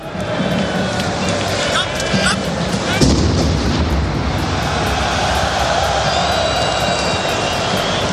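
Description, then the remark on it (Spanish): A single dull, booming explosion from the attack thuds out about three seconds in, heavy in the low end, rising over the steady roar of a large stadium crowd at the France–Germany football match in Saint-Denis on 13 November 2015, picked up by the television broadcast microphones. “Las cámaras y los micrófonos de la televisión llegan a recoger perfectamente dos explosiones, con apenas unos minutos de diferencia.”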